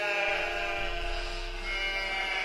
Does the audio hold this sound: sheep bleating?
yes